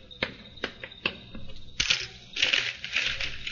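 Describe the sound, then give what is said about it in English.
A nickel (5-cent coin) changes hands: a few sharp metallic clicks in a quick series, then a louder rough rustling and scraping of handling, with no voices. “Give me a nickel. What? 5 cents.”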